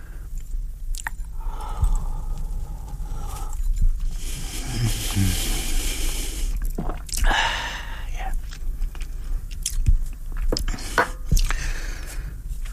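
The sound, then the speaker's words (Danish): Liquid pours into a small glass for a couple of seconds, followed by sips, gulps and a soft exhale, with light clinks and handling noises and no talking. “Men først tror jeg, jeg bliver nødt til at skænke mig et lille glas og drikke det, for jeg synes, jeg er blevet noget hæs.”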